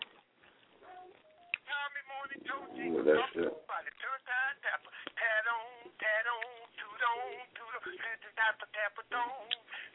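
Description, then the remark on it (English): A phone ringback plays over a narrow, tinny line while calling a cell phone: a brief steady tone, then a continuous caller tune (a greet-me tone) with voice-like melodic sounds at moderate loudness. “I don't even understand why people be having these greet me tones.”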